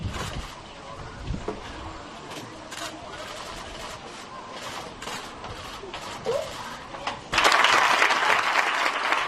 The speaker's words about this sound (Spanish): Los aplausos en la ciudad del fútbol.